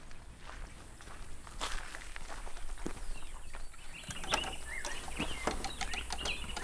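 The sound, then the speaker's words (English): Steady footsteps crunch along outdoors at a moderate pace as a man walks back to an aviary, with faint bird chirps and calls scattered in the background. “Then he heads back to the aviary.”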